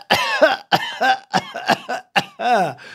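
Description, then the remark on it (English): A rapid string of about six loud coughs, sharp raspy bursts in quick succession with brief gaps, the last one drawn out slightly longer. No talking. “100,000, those coughs were for comedic effect.”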